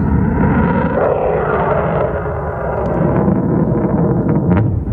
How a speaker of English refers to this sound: And they had a rocket launch on Friday on their Kodiak launch site in Alaska, and it didn't go so good. You actually got to see the rocket go up, turn around, come back down. Hell of an explosion. Rocket launch in Kodiak, Alaska. Pretty cool.